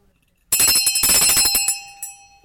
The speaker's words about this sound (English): I had a timer on. There we go, there's my timer.